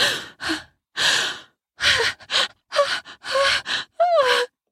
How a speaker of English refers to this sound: I suck her harder as she gasps for air as her body travels the course of the orgasm.